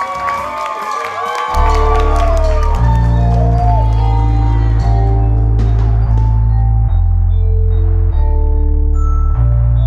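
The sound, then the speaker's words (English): A large crowd claps and cheers loudly as the Culture Ride host brings out three musicians from North Atlanta, Georgia. After a second or two, booming bass-heavy music kicks in and dominates, with the crowd noise still audible underneath. “Please, start clapping your hands now.”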